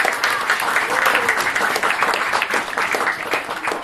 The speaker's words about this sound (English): We owe them a lot, so we're very grateful to the castle staff and owners for allowing us to be here. Let's give them a clap again.